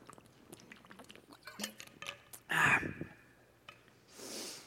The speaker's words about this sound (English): Let me get a drink of water here real quick.